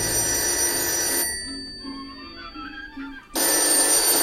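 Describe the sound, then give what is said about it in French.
An old telephone bell rings loudly in two bursts, a harsh metallic jangle that stops for about two seconds in between, with a quiet room hum during the gap. “Moi, c'est toujours la même chose avec le téléphone.”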